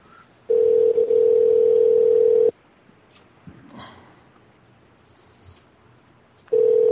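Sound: telephone call tone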